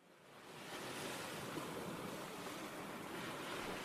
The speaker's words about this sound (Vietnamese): Trên dải đất ven biển miền Trung, giữa những con sóng vỗ bạc đầu, có một ngôi làng nhỏ bé nhưng mang trong mình bề dày lịch sử và sự kiên trì của những người dân hàng trăm năm, đó là làng muối Tuyết Diêm thuộc tỉnh Phú Yên.